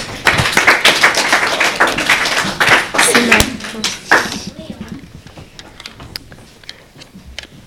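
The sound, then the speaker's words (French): An audience on the game show Bubble Game breaks into applause for the referees, who scored 0 points, a dense burst of clapping for about four seconds that quickly thins to a few scattered claps, with some voices mixed in. “On peut les applaudir.”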